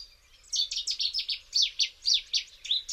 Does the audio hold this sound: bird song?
yes